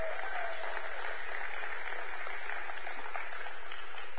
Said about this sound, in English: All right, youth group, honored that you're able to go with each other in our kids' church. Y'all are dismissed with a big old round of applause out the back end.